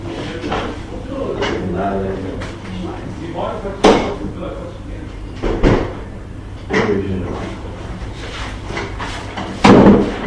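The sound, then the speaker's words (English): Several thuds and knocks from a door being closed during a Talmud lesson, spaced irregularly over a few seconds, with the last one loudest, over a steady hum and indistinct voices in the background. “I'm just going to see if I can ask them to maybe close the door.”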